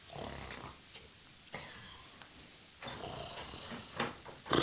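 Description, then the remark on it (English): Someone fakes a snore, drawing out several rough, breathy snorts in a loose rhythm, moderately loud with no talking. “Here's Mum coming along the passage now. Start snoring.”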